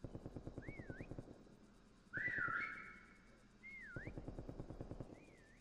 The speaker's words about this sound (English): I think there's a guy on the other end of this, on the other side of the wall over here. We're gonna whistle right now.